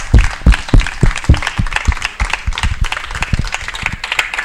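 A crowd breaks into loud applause, dense overlapping claps with sharp percussive hits, holding steady for a few seconds without any voices over it.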